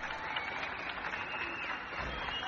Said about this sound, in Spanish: Una mujer saca un tambor a la ventana y avisa de que es la hora. Comienzan los aplausos en las calles.